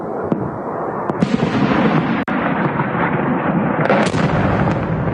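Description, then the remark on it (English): Explosions from drone and missile attacks on Kyiv on the night of June 16, one of the largest attacks of the war, falling about 500 meters away: a dense, continuous roar of rumbling blasts, broken by several sharp cracks and one especially abrupt bang midway, with no voices. “There's also some audio for what the attacks sound like.”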